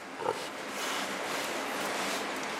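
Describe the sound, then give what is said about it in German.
Pigs in a barn at the experimental pig facility of a farm-animal biology research institute in Dummersdorf near Rostock, Germany, with one short grunt near the start standing out over a steady, dense wash of noise like ventilation and animal activity filling the rest. “Dummersdorf bei Rostock, Forschungsinstitut für die Biologie landwirtschaftlicher Nutztiere, Experimentalanlage Schwein.”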